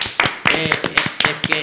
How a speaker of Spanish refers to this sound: Bueno, un aplauso por lo menos. Muy bien, ¿no? Muy bien.